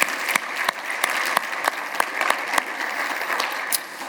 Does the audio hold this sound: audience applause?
yes